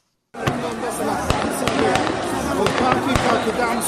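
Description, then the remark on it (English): Sharp gunshots crack out at irregular intervals, several in a few seconds, over a dense, noisy background of crowd voices and commotion in an outdoor street in central Khartoum, Sudan, as armed men in uniform fire in the air and at protesters at a mass sit-in on Monday night. “Gunfire in the heart of Sudan's capital, Khartoum.”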